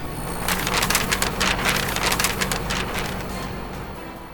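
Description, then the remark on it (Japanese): A paper shredder chews through a postcard: a steady, harsh crackling and tearing rasp full of rapid irregular crunches, holding an even loudness for about four seconds with no voices. “番組を熱心に聞いていない方からのご意見は受け付けておりませんので、こちらのおはがきはシュレッダーにかけさせていただきます。”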